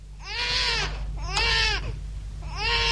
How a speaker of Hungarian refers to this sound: Így vigyázott az én gyerekemre? Hát nem hallod, hogy bőg?